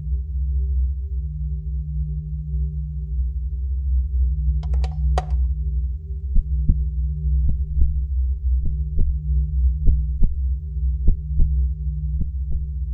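A steady, amplified heartbeat thumps in regular paired beats over a constant low electrical hum, with a brief burst of scratchy contact noise near the middle; picked up by a modified stethoscope placed on the chest and plugged into a computer.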